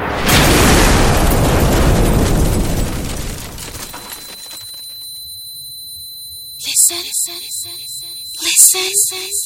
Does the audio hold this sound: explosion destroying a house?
yes